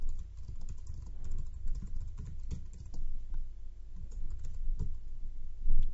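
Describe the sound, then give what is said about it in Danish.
Steady typing on a computer keyboard as a new post is written, with rapid irregular key clicks and occasional louder taps continuing throughout, no voices present. “Jeg skriver bare hernede nu.”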